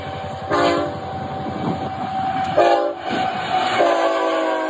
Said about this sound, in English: That was a BNSF freight train speeding through this passive crossing.